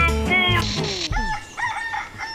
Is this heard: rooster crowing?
yes